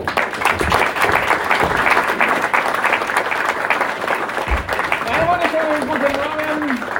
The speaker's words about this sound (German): Und nun einen herzlichen Applaus unserem Gastgeber.